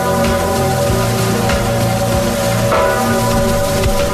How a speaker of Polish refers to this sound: W Krakowie na Wawelu na pożegnanie Tadeusza Mazowieckiego, jak już zapewne słyszycie, bije dzwon Zygmunta.